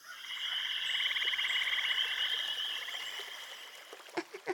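A steady chorus of little frogs croaks in rapid, high-pitched pulsing trills that overlap and continue without pause, ending with a few short, sharper calls.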